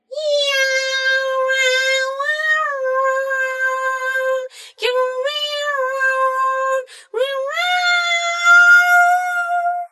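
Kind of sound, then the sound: animal, cats meowing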